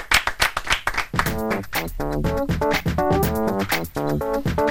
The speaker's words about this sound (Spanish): Puedes ocupar tu sitio, eso sí, mientras recibes este aplauso canjeable por absolutamente nada.